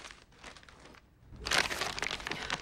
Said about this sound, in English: Patrick's rifling through his backpack, searching Joel's Clementine memorabilia.